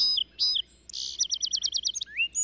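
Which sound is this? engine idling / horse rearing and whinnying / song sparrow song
song sparrow song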